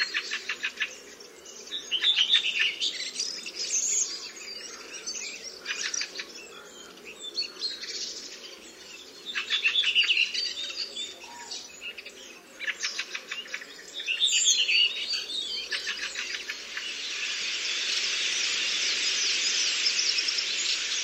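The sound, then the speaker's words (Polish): Harsh, screeching bird contact calls repeat in bursts, some broken into rapid rattling pulses, ending in a sustained noisy screech. Moderately loud, with no voices. “Drugim charakterystycznym dla tego gatunku dźwiękiem jest skrzeczący głos kontaktowy.”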